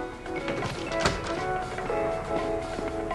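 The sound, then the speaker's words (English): A door swings shut with a single solid knock about a second in, set against a steady, busy background of tonal sound and room noise. “I'm shutting the door.”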